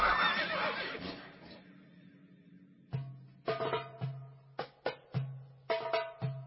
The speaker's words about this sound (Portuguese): De manhã bem cedo, os irmãos de José saíram de viagem com seus jumentos.